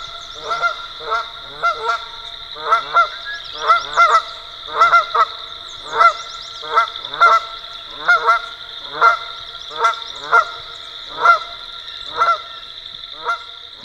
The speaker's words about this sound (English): If you live in the U.S., you definitely know who those dudes are. That's right, Canada geese, Branta canadensis. This species has been introduced to Europe, so this sound has become familiar there as well.